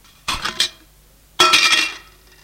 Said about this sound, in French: Ouvre le couvercle de la casserole.